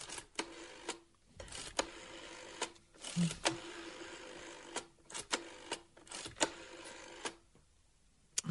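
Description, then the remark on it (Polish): A telephone number being dialed: a run of sharp mechanical clicks and short whirring bursts in uneven groups, fairly loud, with brief pauses between digits and no voices. “Ile razy dzwonię do Barbary, odzywa mi się po piątej cyfrze jakiś dział kolportażu”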